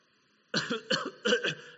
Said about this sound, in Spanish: Cada vez que tengo esta tos, cada vez empiezo a estornudar, cada vez que mi garganta comienza a sentirse así, siempre lo consigo.